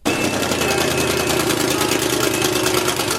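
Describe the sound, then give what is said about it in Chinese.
The engine of a classic race car, built solely for racing rather than street driving, with no air conditioning, power steering or power windows, and able to reach 160 km/h in 8.5 seconds, runs steadily and loudly: a continuous throaty rumble with a rapid pulsing texture and no pauses, at a constant idle-like pitch. “这个车没有空调，没有动力转向，没有电动车窗。这个车的使命就是开到赛车场上，以最快的速度飞速前进。”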